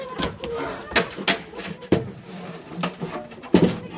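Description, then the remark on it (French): An emergency door, reached by climbing onto a bed, is opened with a couple of sharp clunks and latch clicks, amid soft shuffling and faint murmuring voices. “La porte pour les urgences, pour éviter les filles. Il faut monter sur le lit. Je vous ouvre.”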